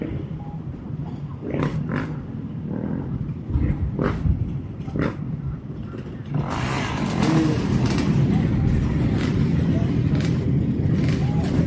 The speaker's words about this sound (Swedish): Nu kommer en massa endurohojar här på slutet och sen är polisbil. Och de flesta endurokillarna åker på ett hjul, en del på bakhjulet och en del på framhjulet.